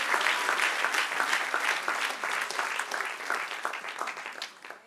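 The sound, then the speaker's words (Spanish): An audience applauds steadily, many hands clapping in a dense, loud patter that holds for several seconds and then begins to taper off at the end. “Del otro aplauso al que reina.”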